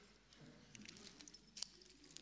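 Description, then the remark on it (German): A key works a padlock: quiet metallic scraping and jingling, then a sharper click as the lock releases, with no talking. “Das Schloss ist offen. Wir können den ganzen Kram jetzt eigentlich wegwerfen.”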